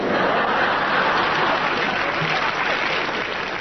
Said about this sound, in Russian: Вы видели лица членов нашего правительства? Видели. Вот ваши аплодисменты, говорят, видели и согласны.